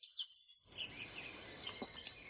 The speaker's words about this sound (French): Et je suis sûr que vous pouvez entendre les oiseaux gazouiller en arrière-plan.